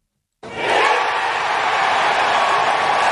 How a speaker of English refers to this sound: Cheers for the crowd at Golf's U.S. Open, Pinehurst number two, and your champion, Bryson DeChambeau, on that putt.